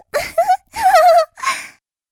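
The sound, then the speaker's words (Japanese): Three loud bursts of wailing sobs from a man, with wavering pitch, crying uncontrollably like a baby, each burst separated by short gasping pauses and no words. “うわぁ、この豚、赤ちゃんみたいに泣きじゃくり出したわよ。”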